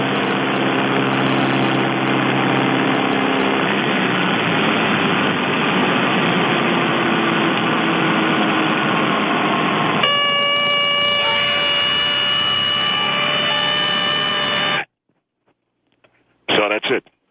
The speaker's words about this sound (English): This was a simulation of my father. I asked him to recreate it for me, if you want to hear this. This is what my dad did that day when he put the plane into a fake dive and pretended like we were crashing.